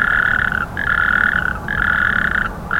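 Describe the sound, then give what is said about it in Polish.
Frogs croak during the mating season in a loud, steady trilling chorus that comes in long bursts separated by brief dips, with a low rumbling background and no voices. “Nieraz ta droga jest daleka i musi taka żaba z takim ciężkim bagażem, facetem na plecach, wędrować.”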